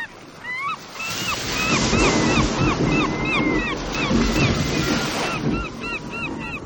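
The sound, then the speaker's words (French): Loud, constant roar of stormy sea waves and gusting wind at sea around a boat, the wind blowing harder and harder, swelling and churning for several seconds, with repeated high cries like seabirds calling above the din. “Hélas, au bout de 2 heures, le vent s'est mis à souffler de plus en plus fort et le ciel est devenu noir.”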